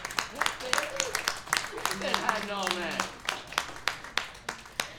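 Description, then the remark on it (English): An audience applauds the Project Drew team with steady, crisp clapping that runs the whole time, while a few voices cheer and call out briefly in the middle. “A round of applause for our Project Drew team.”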